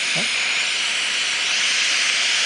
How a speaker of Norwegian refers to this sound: Hva var det? Saturns ringer.